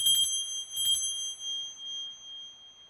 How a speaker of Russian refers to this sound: Слышат, как в глубине комнаты на елке раздается перезвон.